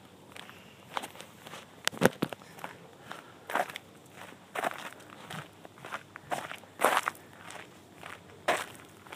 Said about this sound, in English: I hear some animals scurrying out of my way as I engage the crunch of the trail. This is a bit of pea gravel and hard-packed dirt. There's no leaves on here.